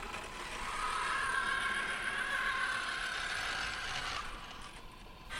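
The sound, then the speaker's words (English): A steady mechanical whir with a faint tonal hum from the arm joints of Baxter the robot moving its arm into position after being instructed to begin, holding for about four seconds before easing off. No one speaks. “Satisfied that Baxter has settled on a reasonable plan, he instructs the robot to begin.”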